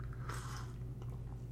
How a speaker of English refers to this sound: Hold on, I gotta sip some coffee. I'm a little parched.